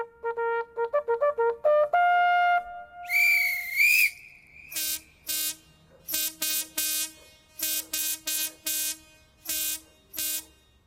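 During an alarm drill, a series of short, rising whistle toots gives way to a long wavering tone, then a run of loud, harsh signal horn blasts in irregular bursts of two and three.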